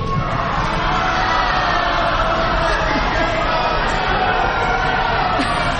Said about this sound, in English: And the people who didn't get into the boat were yelling.